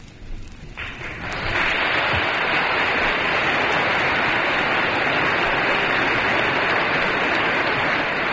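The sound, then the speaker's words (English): Members of the Senate and the House, at a joint session of Congress in the chamber of the House of Representatives, applaud the President's speech; the applause swells within the first second or so, then holds as a dense, steady roar of many hands clapping, loud and continuous, with no one speaking over it. “The members of the Senate and the House applaud the President's important speech to a joint session of the Congress here in the chamber of the House of Representatives.”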